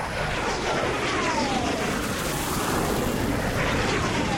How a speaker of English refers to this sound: Whoa, the red arrows. $25,000 for 2 seconds of noise and a bit of pink smoke.